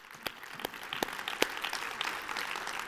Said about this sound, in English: Yeah, you can clap. Praise the Lord.